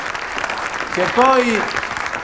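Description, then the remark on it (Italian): Steady applause from many hands fills the whole clip, a dense crackling patter, while a single voice calls out briefly over it midway. The applause is for the woman who organized the gathering. “Io voglio fare un applauso solo per lei.”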